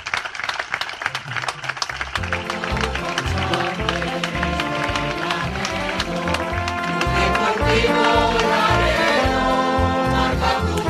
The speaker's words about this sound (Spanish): Así que lo primero es que os voy a pedir a vosotros mismos que os deis un fuerte aplauso. Enhorabuena.